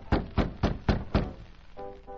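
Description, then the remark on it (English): Five firm, evenly spaced knocks on a wooden office door at the rear of a nightclub, each a dull thud, followed by a faint, steady tonal murmur of a radio playing quietly in the office. “Jimmy Edmonds opened his office door in response to Allen's knock.”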